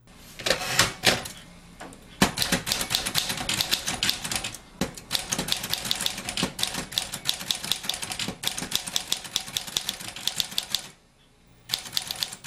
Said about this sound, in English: If you said manual or electric typewriter, you are correct.